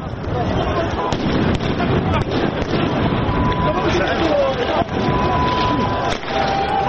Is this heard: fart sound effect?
no